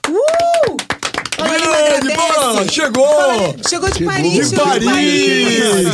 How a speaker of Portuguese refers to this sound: E hoje recebendo uma convidada. Essa mulher tem voz, hein? O que canta, hein? Quase nada. Aff. Palmas para a …!